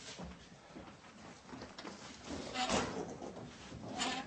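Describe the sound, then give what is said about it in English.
Heavy furniture scrapes and thumps as it is dragged across a floor in rough, uneven pushes to block a door, loudest near the end, with faint voices in the background. “All right, now I want to block that door. In case they try coming in, I can hear it. All right, let's move this.”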